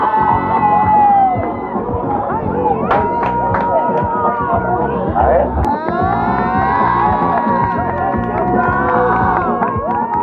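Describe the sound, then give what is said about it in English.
A large crowd screams and cheers excitedly as people fan money Drake has given them, with high-pitched shrieks and whoops rising over a dense, continuous roar of overlapping voices that stays loud throughout. “This can be seen when people are fanning money and screaming in excitement whenever Drake gives them money.”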